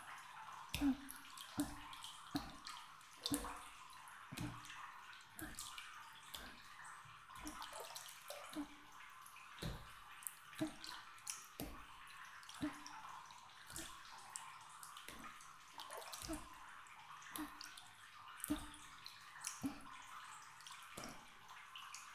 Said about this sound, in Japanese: 軽く叩いていくね。